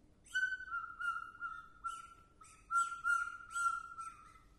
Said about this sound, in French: Des moineaux.